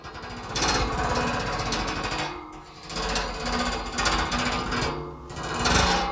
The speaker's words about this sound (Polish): To był mój palec na kaloryferze, który przemierzał drogę w górę i w dół. Więc takie dźwięki wydają.